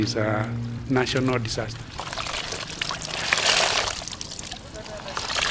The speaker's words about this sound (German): An einem Nebenarm waschen junge Frauen im Fluss ihre Kleidung. Sie haben Kinder mitgebracht, die im Wasser spielen.